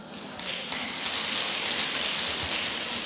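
Sustained audience applause, a dense, steady crackle of many hands clapping at once for about three seconds, with no voices over it.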